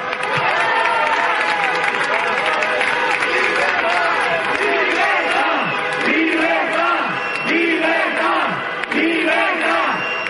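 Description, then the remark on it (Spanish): A dense street crowd protesting the Ley Celaá shouts in unison, chanting phrases such as 'Hay que parar la ley Celaá' that rise and fall over a constant roar of many voices, loud and continuous throughout. “La gente que ha salido a la calle a protestar por la ley Celaá, que también gritaban esto.”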